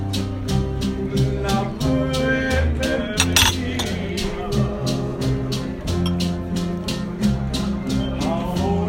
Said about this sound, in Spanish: El ruido de los cubiertos.